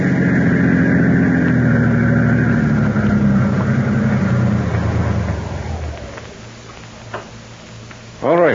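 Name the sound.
car engine running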